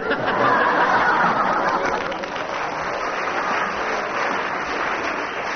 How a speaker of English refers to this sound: Two lots of applause for you